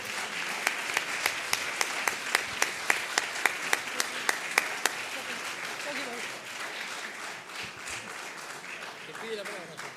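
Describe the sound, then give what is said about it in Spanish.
An audience applauds steadily, with several loud, evenly spaced claps standing out in the first half before the clapping thins into a softer patter as voices begin to emerge. “Disculpe, no es que quiero más aplausos, sino un poquito de dolor dentro de todo.”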